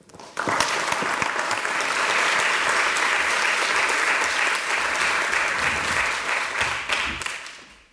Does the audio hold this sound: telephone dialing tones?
no